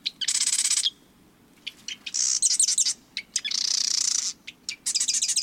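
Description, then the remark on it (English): A marsh wren sings repeatedly, loud, each burst a rapid rattling trill punctuated by short buzzy notes and clicks. No one speaks. “Tiny marsh wrens live in wetlands, usually within cattails, reeds, or bulrushes.”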